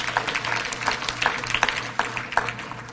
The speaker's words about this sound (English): All right, give our boys a big hand clap. Thank you, gentlemen.